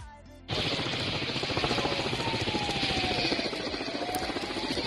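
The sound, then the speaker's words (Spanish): A firefighting helicopter, one of seven newly added to fight the Sierra Bermeja wildfire near Estepona, drops water on a burning area, roaring loudly overhead, its rotor chopping in a fast, steady thud beneath a dense rushing wash that starts abruptly after a brief quieter moment and holds throughout. “Este es el momento en el que uno de los 7 helicópteros que se acaban de incorporar a las labores de extinción de este incendio soltaba agua sobre una de las zonas en llamas.”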